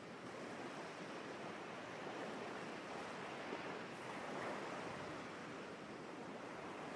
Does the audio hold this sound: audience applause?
no